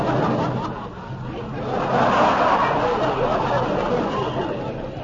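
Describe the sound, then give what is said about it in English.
Dense crowd hubbub in a village fills the scene, a steady wash of many overlapping voices chattering at once, with occasional snickers and chuckles rising out of the murmur, swelling slightly toward the middle. “And now we enter a village and notice great crowds.”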